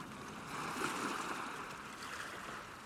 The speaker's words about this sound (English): The sound of the sea has been the core of almost everything I've done.